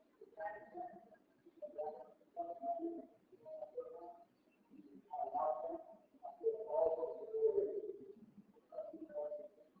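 A bird coos nearby in a steady series of low, throaty phrases, about eight of them in close succession with short pauses between, moderately loud and fairly close.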